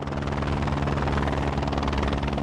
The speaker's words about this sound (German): Anflug auf den pyramidenförmigen Gipfel des Hochvogels in den Allgäuer Alpen. Der Pilot setzt den Helikopter mit nur einer Kufe auf einer Felskante knapp unterhalb des Gipfels auf, im zerklüfteten Gelände, und hält ihn in der Schwebe.